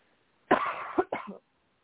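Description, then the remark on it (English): A loud fit of coughing: a harsh first cough that trails off, then two quick follow-up coughs in rapid succession, with silence before and after and no talking. “Sorry, guys, coughing in your ears.”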